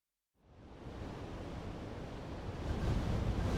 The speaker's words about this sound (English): It's windy and it's really cloudy today. There are lots and lots of big grey clouds above our school.